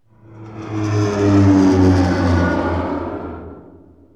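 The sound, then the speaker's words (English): A propeller-driven airplane engine drones past, swelling from quiet to a loud steady hum with a deep rumble, then fading away over about four seconds. “Airplane.”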